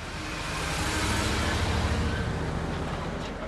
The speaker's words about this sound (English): A flatbed truck pulls away from Saint Jean's with yet another load of precious marble.